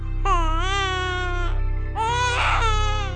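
A newborn baby, just born in a stable on a quiet starry night, wails in two long, loud cries separated by a brief pause, the second cry rising into a strained, raspy peak before trailing off. No one speaks.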